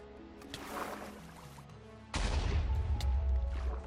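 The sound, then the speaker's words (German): Video game TNT explosions underwater: softer crackling bursts at first, then a sudden loud boom that rolls into a sustained deep rumble with more blasts layered on top. “TNT explodiert nicht im Wasser.”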